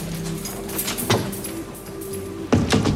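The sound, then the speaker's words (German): Keys unlock the staff room door at a school: a metallic click, then a louder clack and rattle of the lock turning, over a steady low background hum. No one speaks. “Okay, dann muss es jetzt sein. Sie schließt die Tür auf.”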